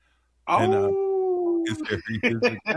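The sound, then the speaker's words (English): A person lets out a single long, steady howl imitating a wolf, held for about a second up close, then breaks into quick speech. “I think I hear a howl from a Timberwolf fan.”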